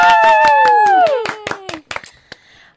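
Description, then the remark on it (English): A few people clap in a quick, steady rhythm, rehearsing as a crowd, while a voice lets out a loud whoop that slides downward in pitch; the clapping then thins to scattered claps and fades. “Do you want to, you know, should we clap like, you know, just they've just riff?”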